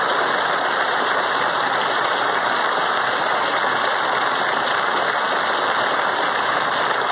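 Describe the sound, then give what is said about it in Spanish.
A large crowd applauds without pause at the United Nations as New Zealand's representative hands a document to Secretary-General Ban Ki-moon, a dense, even crackle of many hands clapping that stays loud and steady throughout, with no voices heard over it. “Escuchemos el aplauso.”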